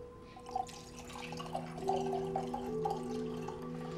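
Wine pours steadily into a glass for several seconds, a continuous gurgling trickle whose ringing tone climbs in pitch as the glass fills, with a few small splashes and no voices.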